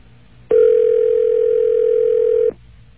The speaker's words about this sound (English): All right, well, 611 is ringing.